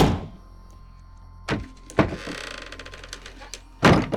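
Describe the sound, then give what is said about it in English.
The door of a broom closet beside a hearth bangs shut with a heavy thud, followed by a short rattling clatter and then another loud, solid slam near the end. No one speaks. “The door slammed shut.”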